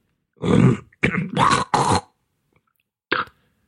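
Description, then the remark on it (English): A person who is getting a cold loudly clears phlegm from their throat in a series of rough, hacking bursts, followed after a pause by one shorter throaty grunt. “You know when you sniff a lot and it runs down the back of your throat?”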